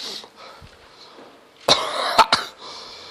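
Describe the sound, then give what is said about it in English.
A loud, breathy burst erupts out of near silence, followed quickly by two sharp, explosive sneezes, with no talking around them. “And now something is making me want to sneeze.”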